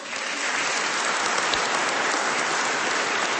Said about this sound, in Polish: Także brawa dla nich gorące.